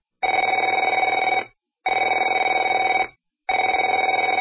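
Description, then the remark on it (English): A telephone bell rings in three long, steady bursts with short silent gaps between them, a bright, trilling metallic tone with no one speaking. “Afraid to answer it?”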